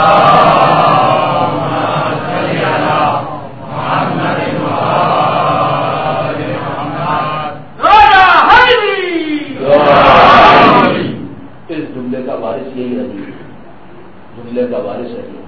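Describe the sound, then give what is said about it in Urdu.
A large crowd loudly chants a durood, sending blessings upon Muhammad and the family of Muhammad, in unison, in a few sustained, rhythmic bursts of many voices, separated by brief pauses and followed by quieter, scattered voices. “اس مشکل کو ختم کرنے کے لیے ایک دفعہ باوز بلند درود بھیجیں محمد و آل محمد.”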